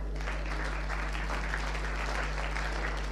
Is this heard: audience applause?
yes